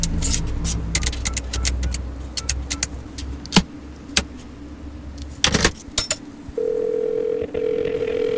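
A steady, unbroken telephone dial tone from a call that does not ring through, to an unfamiliar interregional number, starts near the end and holds, following a stretch of low car engine rumble and bursts of jingling keys.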